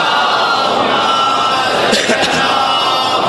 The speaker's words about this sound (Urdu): بڑا حوصلہ دے دیا اس خشکی میں آپ کے اس نعرے نے، ایک بار بلند آواز سے صلوات بھیج دیجئے محمد علی.